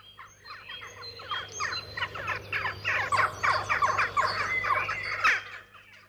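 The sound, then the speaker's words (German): A flock of jackdaws calls in a rapid, overlapping chatter of harsh, clipped squawks, steady for several seconds, with no voices present. “Die Burgzinnen, wo die Dohlen ihre Nester hatten.”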